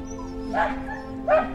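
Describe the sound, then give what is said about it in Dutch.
A small dog gives two high, thin yelping whines about a second apart over a steady low hum in the background. “Ik dacht dat het kleine babyvogeltjes waren, maar het was een hondje.”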